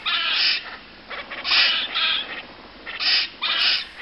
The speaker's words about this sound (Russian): Вот такими, почти птичьими голосами поссумы перекрикиваются друг с другом.